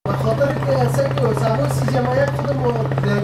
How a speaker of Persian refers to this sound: این صدای قلیان یا چلم است که بخشی از جوانان در این کشور از آن استفاده می کنند.